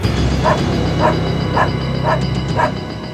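A dog, Fan, barks loudly five times in a steady, evenly spaced rhythm over a low rumbling background noise.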